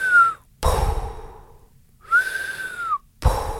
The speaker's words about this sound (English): And because it was so dark, we couldn't see them, but we could hear this pod of whales. And it was such a magical, magical experience.